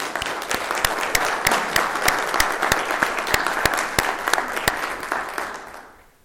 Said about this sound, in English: And that's good news. And that deserves a round of applause.